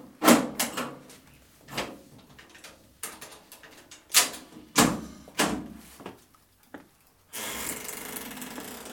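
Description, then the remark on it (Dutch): A series of sharp wooden knocks and clunks, then scraping and creaking as a heavy old door, unopened for a century, is worked open, ending in a steady rushing noise. “Deze deur is een eeuw niet geopend.”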